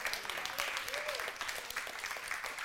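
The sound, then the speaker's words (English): A crowd claps steadily and densely, a sustained wash of applause with faint voices calling out beneath it, fairly loud throughout. “You can clap. You can say hallelujah.”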